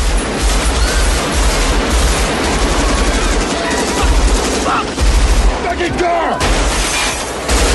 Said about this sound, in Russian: Конечно, звуки. Ну, когда смотришь это, тут, естественно, звук. Не зря заморачивались со звуком выстрелов.